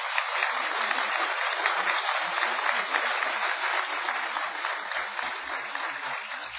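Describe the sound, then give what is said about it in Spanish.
A crowd applauds steadily for several seconds for the director of a yeshiva, a dense, even wash of many hands clapping at once, loud with no pause or fade until the end. “que pido un aplauso para él, por favor.”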